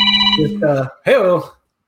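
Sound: phone ringing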